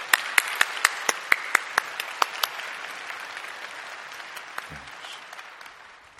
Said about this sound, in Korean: 우리 삶에서 또 직장에서 선교적인 삶을 살아가는 우리 간증을 할 때에 우리 나오실 텐데 우리 박수로 맞이해 주시기 바랍니다.